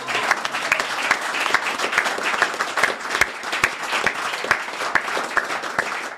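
A group applauds steadily for several seconds for a woman who made a cake, dense overlapping claps forming a continuous, fairly loud wash with scattered sharper individual claps standing out.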